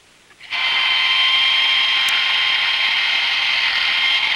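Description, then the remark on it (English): A power drill starts up after a brief quiet moment and grinds steadily through a metal vault door, a loud, continuous high-pitched whine with a constant tone and no voices. “Meanwhile, Louis drills through the vault door.”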